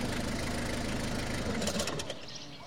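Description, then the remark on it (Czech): A dark blue Ford Tourneo van's engine idles steadily for a long time, its exhaust pointed toward a terrace, a low rhythmic rumble with a faint chugging pulse that eases off slightly near the end, with a brief high chirp over it. “Přijel sousedův tmavomodrý Ford Tourneo, dlouho stál se spuštěným motorem s výfukem namířeným přímo k němu na terasu.”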